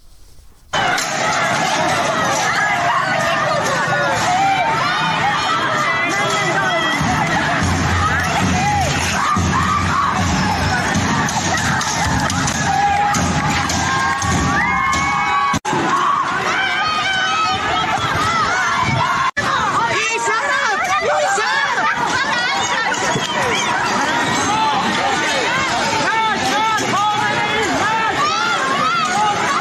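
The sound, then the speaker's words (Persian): A large crowd of protesters in Ardabil, Iran, shouts and chants slogans, many voices overlapping into a loud, continuous roar with rising and falling yells, sustained for the whole half minute. “صدای از اعتراضات امروز در اردبیل رو میشنیدی”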